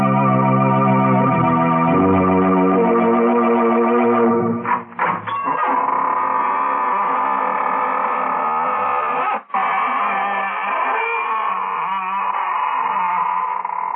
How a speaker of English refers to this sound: Good evening, friends of the Inner Sanctum. This is your host, welcoming you in through the squeaking door.